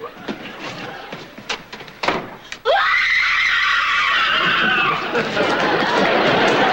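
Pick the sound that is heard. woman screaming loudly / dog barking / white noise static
woman screaming loudly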